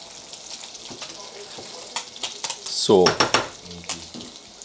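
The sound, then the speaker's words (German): Artichokes sizzle in a frying pan with a steady crackling hiss and scattered sharp pops and clicks. Partway through, a voice briefly speaks over the frying. “Haben wir gerade, glaube ich, zuerst gehört bei den Artischocken. Ein bisschen langsam mit Wurzeln, ja, genau. Heftig wurzelt und genau. Zischt.”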